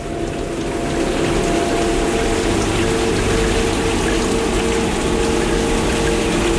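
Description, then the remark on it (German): Steady, heavy rain with a windy, stormy roar, a dense continuous wash of noise that stays loud and even throughout, with no voices. “Es ist eher wie so ein Wind, so ein Unwetter.”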